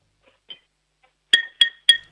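Three bright, ringing clinks of a ceramic mug being tapped with a spoon, evenly spaced, preceded by a faint softer tap, with no talking.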